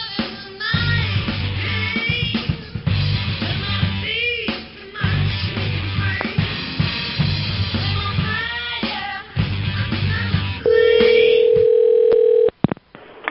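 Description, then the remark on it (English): A telephone call is placed to the Ebisu Ramen Restaurant: after a stretch of busy music-like sound, a loud, steady single-pitched phone tone holds for about two seconds, then cuts off with a couple of sharp clicks. “Call the Ebisu Ramen Restaurant.”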